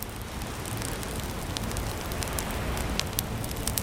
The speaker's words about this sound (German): Die Feuerschalen prasseln beruhigend vor sich hin und werfen tanzende Schatten an die Mauern des alten Tempels.